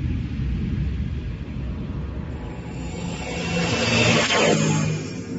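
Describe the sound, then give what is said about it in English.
A loud, steady jet-like roar that swells in intensity, with a rising whine sweeping through it as the reactor jets of Sir Hubert's shuttle start up, continuous with no voices. “Switch the gyro stabilizer. Start the reactor jets.”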